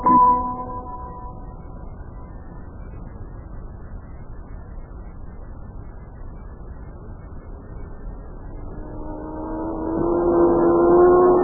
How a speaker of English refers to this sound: That car was really traveling, all right. Yeah. How fast do you think it was going? Come on. Think it's going 100 miles an hour?